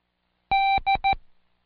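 A Morse code letter D sounds out clearly: one long electronic beep followed by two quick short beeps, dash-dot-dot, in a steady bright tone with nothing else around it.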